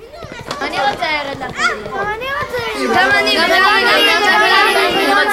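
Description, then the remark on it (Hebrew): A lively crowd of children in a lengthening procession through a small town chatters and calls out together, their high voices overlapping into a steady, cheerful babble that grows fuller and louder toward the end. “בצדי הדרך חלונות הבתים נפתחים לרווחה, יהודים מחייכים זה לזה, והנה שיירת הילדים מתארכת.”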